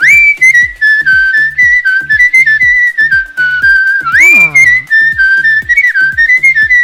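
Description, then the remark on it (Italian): A person whistles a song melody loudly, the melody wavering and swooping upward midway, over a steady, regularly pulsing rhythmic backing. “Ma dai, va bene, dai, ci va bene anche sentirla fischiare.”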